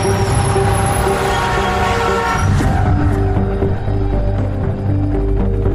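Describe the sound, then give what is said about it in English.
A train rumbles steadily at the Katona train station, a train bound for Manhattan, with sustained horn-like tones ringing over the deep, continuous mechanical drone. No one speaks. “According to Robert Durst, he takes her to the Katona train station to board a train bound for Manhattan.”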